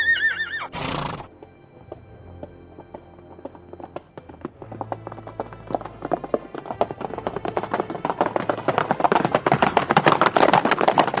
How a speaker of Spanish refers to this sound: Pero sí que puedo prestarte un caballo con un encantamiento de velocidad. Así podrás regresar.